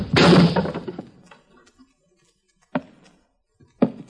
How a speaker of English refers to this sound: A little trick I learned in the Orient, my friend. When I brought the edge of my hand down upon the arm of that chair, it snapped like a dry twig.